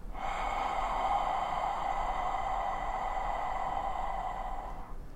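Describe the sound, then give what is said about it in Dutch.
A single long, steady Ujjayi breath drawn through a constricted throat, producing a soft, hissing, ocean-like rasp that holds evenly for about five seconds before fading, with no talking. “Dat heet Ujjayi ademhaling. En eigenlijk maak je dan zeg maar een intern geluid.”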